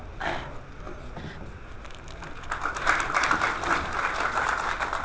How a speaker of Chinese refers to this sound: 谢谢大伙的掌声。